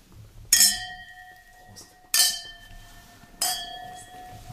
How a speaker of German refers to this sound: Wir haben Brötchen geschmaust und dazu haben wir auch schon einen Schluck Schilcher getrunken. Gell? Was wir vorher aber nicht so richtig zelebriert haben, nein, jetzt anstoßen. Machen wir.